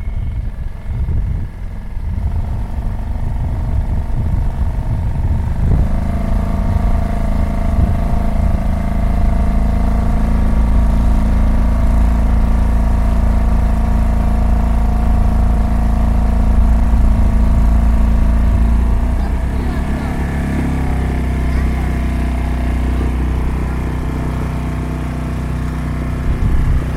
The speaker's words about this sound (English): clambered into his tender, and headed out across the spectacular bay to where his boat sat at anchor.